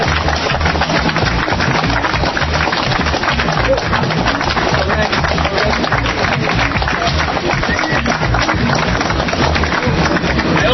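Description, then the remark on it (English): Sustained applause from a crowd at a September 11th anniversary gathering, a dense, steady wash of many hands clapping at once that holds at full loudness for around ten seconds without fading. “Hope that applause is for yourself and not for me, for all that you've done.”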